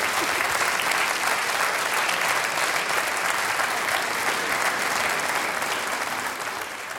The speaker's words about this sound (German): Jetzt kriegt ihr einen Applaus.